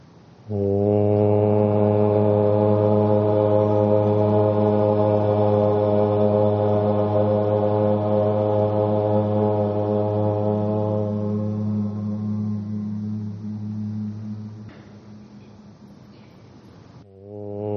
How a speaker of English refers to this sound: And together, drawing in a breath, we'll share the sound of Om.